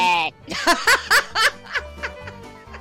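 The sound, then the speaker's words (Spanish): A person imitates a goat's bleat, a quavering, nasal voiced cry broken into a rapid series of shaky pulses, fairly loud, trailing off softer at the end. “Sí, la cabra también bala, pero es distinto, es como un... en vez de un...”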